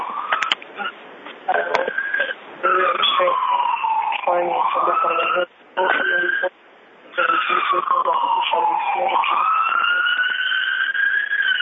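An ambulance siren wails steadily, its pitch sweeping up and down in long cycles. It sounds fairly loud and tinny, as if heard over a call line, and cuts out briefly a couple of times.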